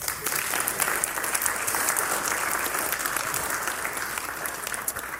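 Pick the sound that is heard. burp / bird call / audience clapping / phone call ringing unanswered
audience clapping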